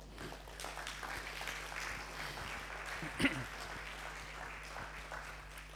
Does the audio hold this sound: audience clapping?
yes